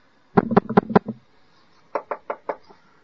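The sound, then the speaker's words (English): Two bursts of knocking on a door: four loud raps in quick succession, a brief pause, then four lighter, slightly duller knocks in a steady rhythm, as people go house to house in Navadvip at night knocking on doors. No voices. “Knocking on people's doors.”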